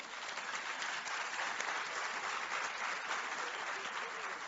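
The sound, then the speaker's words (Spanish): A crowd claps steadily and loudly for several seconds, a dense, sustained wash of many hands applauding with no pauses or voices standing out. “Vamos a darle nueva vez un fuerte aplauso.”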